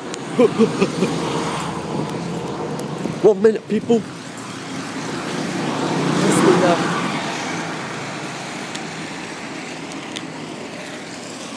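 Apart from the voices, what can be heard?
bus arriving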